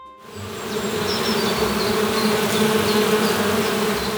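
A dense, steady drone of many bees buzzing together inside a hive, fairly loud, a thick, layered hum that holds constant throughout with no voices.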